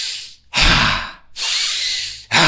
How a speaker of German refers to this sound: Der hat mit uns so tantrisches Atmen gemacht, wo du so, also wenn du atmest ein und spannst den ganzen Körper an, so.